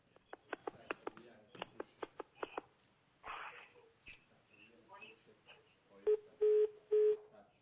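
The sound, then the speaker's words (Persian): A quick run of short electronic beeps like dialing tones, followed by a brief burst of noise and then three longer steady tones as an incoming telephone call rings through, then the line is cut off and goes quiet. “میگن تلفن داریم، اگر اجازه بدید پیامک میذاریم برای بعد. تلفن رو گوش میکنیم، بعد انشالله میریم سراغ پیام.”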